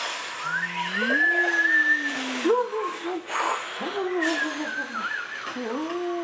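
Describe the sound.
Several voices imitate blowing wind, growing stronger, during a group exercise of imagining being trees, with overlapping, breathy howls that swoop slowly up and down in pitch over a steady airy hiss, keeping up a continuous, moderately loud whooshing throughout.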